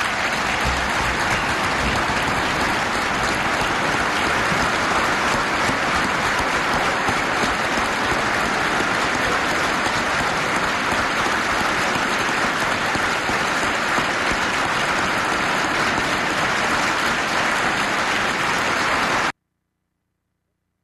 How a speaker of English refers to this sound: If you look at that, everybody's applauding what Mother Teresa's saying, except two people.